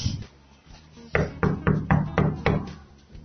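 A series of about six firm knocks on a wooden door, evenly paced, following a brief quieter moment with no talking.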